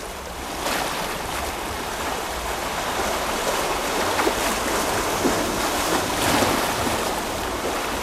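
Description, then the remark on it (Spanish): Rough Atlantic Ocean waves churn and crash continuously, a dense roar of surf with bursts of spray and wind rumble, loud, with no voices. “Bueno, estaba atardeciendo, abrir y ver el Atlántico, uno de esos días además que estaba bravo, y recuerdo que pensé que era lo más hermoso que había visto en mi vida.”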